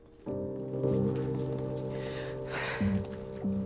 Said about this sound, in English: She's breathing heavily, and tears are rolling down her cheeks.